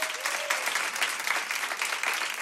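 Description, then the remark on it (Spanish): An audience applauds steadily at the Cadena 100 radio show Antonio Hueso de Cerca, a dense wash of many hands clapping at once, sustained for the whole stretch with no one speaking over it. “Un aplauso para ellos.”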